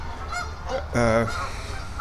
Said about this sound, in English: Look at all these honkers. Oh my god. Let's listen to them honk. Yeah, we are talking about hundreds of geese.